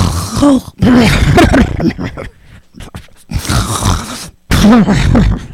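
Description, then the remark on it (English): A voice imitates a father's loud, throaty snoring in several drawn-out rasping bursts separated by short pauses, forceful, with no other sounds around it. “I could hear snoring.”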